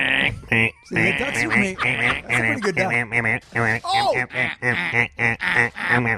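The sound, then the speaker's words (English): A person imitates a duck with a rapid string of nasal, buzzy quacks, a dozen or more short bursts in quick uneven rhythm, loud and raspy, with no other talking. “Can you do a duck sound?”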